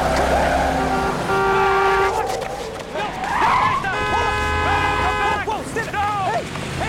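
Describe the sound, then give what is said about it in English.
A stolen truck's engine roars and revs as the vehicle speeds away, its whining pitch rising and falling, while several people shout and yell over it. “They watch on helplessly as someone steals the truck.”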